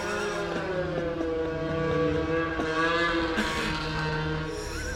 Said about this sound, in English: What's going on? Snowmobiles. Snowmobiles going by.